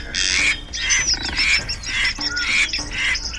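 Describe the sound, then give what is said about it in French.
A large bird squawks loudly and harshly, over and over in quick ragged bursts, flapping its wings to escape a pursuer swimming in the water near an old bridge, with a frantic, agitated commotion around the calls and no one speaking. “Elle lève les yeux et elle voit un grand oiseau qui bat des ailes pour échapper à un poursuivant.”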